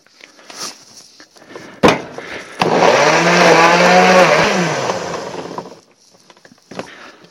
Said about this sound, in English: All my ingredients are now in a blender.